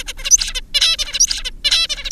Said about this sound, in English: in the adult bird song, you can hear this repeated motif, as we call it, da-da-da-dee